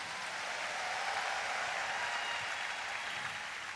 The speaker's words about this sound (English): Give the Lord a big clap and a shout of praise.